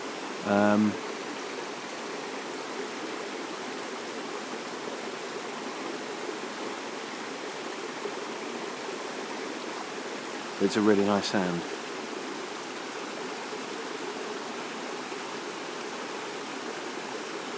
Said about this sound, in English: But what I thought I'd do was, whilst we're here, is just to give you a quick blast of what the water here at the Cascade sounds like.